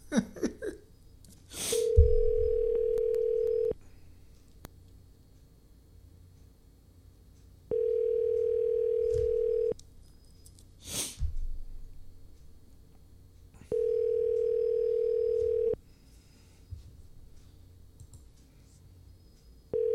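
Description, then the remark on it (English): A phone line rings out unanswered: three long, steady ringback tones, each about two seconds, separated by longer silent gaps, with a few sharp clicks in between. “So, she's not picking up.”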